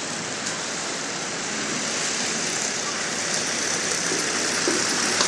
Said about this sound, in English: Almost out. Let's see how we go. Just spinning all four tyres at the moment. Okay, let's see. Almost out.